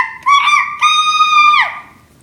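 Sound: cuckoo calling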